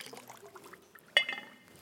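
Water is poured during a baptism in a short splashing stream with soft trickling, then a sharper splash near the end as more spills out. The pouring is fairly quiet, and no one speaks.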